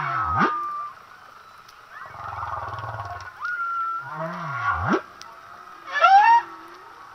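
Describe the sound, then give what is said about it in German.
Humpback whale song: high squeaks and swooping whistles alternate with low, burp-like grunts and groans in an echoing, watery series with no talking. “weil man Buckelwalgesänge immer mit dieser Entspannungsmusik verbindet, aber das sind so Quietschgeräusche und manchmal hört sich das an wie so Rülpser, so ein bisschen.”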